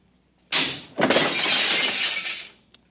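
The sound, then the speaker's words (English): Glass cooling tubes shatter with a sudden loud crash, spilling cooling fluid on the floor, then a second burst of breaking glass follows, a bright crackling cascade of shards that tinkles on for about a second and a half before cutting off. “I seem to have broken the cooling tubes.”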